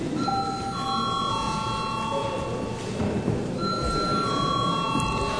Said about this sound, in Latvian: Deputāti, lūdzu balsojumu. Lūdzu zvanu.